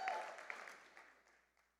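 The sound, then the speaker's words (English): A crowd claps and cheers, with a brief high whoop near the start, and the applause thins out and fades over about two seconds. “Ladies, this is where you cheer. Make some noise.”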